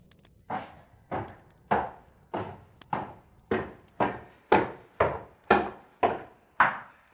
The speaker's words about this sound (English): The heaviness of his steps upon the stairs makes him over 200 pounds.